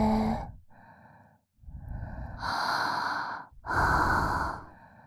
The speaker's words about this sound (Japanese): このエロい吐息で出しちゃえ。